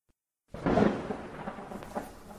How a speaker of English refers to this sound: Oh, it's raining now.